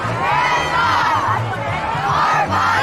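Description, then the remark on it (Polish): A large crowd at a pro-abortion march chants the slogan "Zakazy precz od naszego ciała" ("bans away from our bodies") in unison, many voices shouting together in a steady rhythmic cadence with a low rumble of massed voices underneath, loud and continuous throughout. “żadna z tych kobiet, która krzyczy zakazy precz od naszego ciała”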